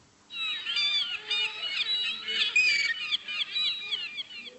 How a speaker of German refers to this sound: Eine Möwe, super.